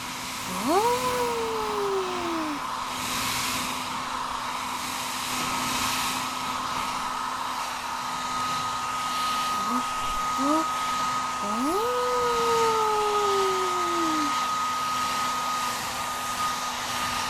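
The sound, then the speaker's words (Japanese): A hair dryer blows steadily, blowing off fine cut hair after a haircut, with a constant whirring hum for the whole stretch, while a few drawn-out, cat-like mewing cries glide over it near the start and end. “ドライヤーで細かい髪の毛を吹き飛ばしましょう。”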